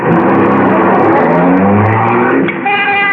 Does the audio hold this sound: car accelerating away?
yes